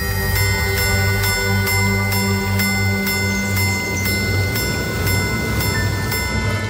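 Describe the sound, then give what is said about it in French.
A Tropical Bird Repeater minute repeater watch from the Automate collection chimes as hammers inside the case strike cathedral gongs, sounding hours, quarters and minutes in a quick, even run of bright metallic strikes, each leaving a high ringing tone, over a steady low hum. “Ce mécanisme très complexe se sert de marteau à l'intérieur du boîtier pour faire vibrer des timbres cathédrales, des sortes de cloches.”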